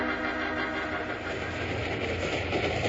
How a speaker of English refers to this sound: So when the train began to near Broken Wheel Grade,